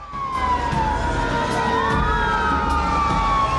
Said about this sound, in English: Red fire engines race down the street.